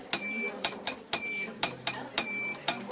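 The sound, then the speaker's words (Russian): A telegraph key at a station in the north taps out Morse code: a steady run of sharp mechanical clicks, roughly two per second, some in quick pairs, with faint high whistling tones sounding between them. “Когда мы 2 года жили на станции, вот там ключ, на котором я работала, уже все сказали, что руку сорвала, 46 лет болит, но ничего.”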